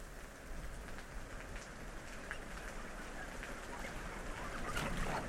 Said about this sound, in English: It's not that I hate the rain now, but a cold fall morning drizzle isn't quite the same as the tender, warm kisses of a June afternoon thunderstorm, which seem to be fewer and fewer as the years go on.